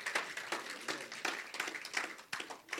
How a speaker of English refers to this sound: Yeah, clap for the Lord Jesus again.